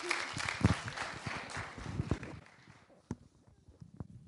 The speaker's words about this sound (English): Okay, let's give Jesus another big hand clap. Amen? Amen?